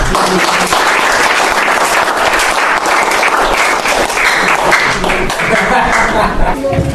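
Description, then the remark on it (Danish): An audience applauds steadily to say thanks at the end of a part of a meeting's programme, many hands clapping in a dense, loud, continuous wash of sound that holds for several seconds without letting up. “Så vi skal klappe alle sammen for at sige tak.”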